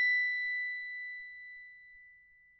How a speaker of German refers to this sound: Einfacher ist es, einfach mit einem Hammer auf die Glocke zu schlagen.